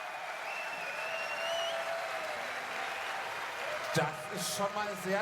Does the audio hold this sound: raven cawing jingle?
no